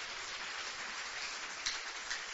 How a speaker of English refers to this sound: Give the Lord the loudest clap offering you can.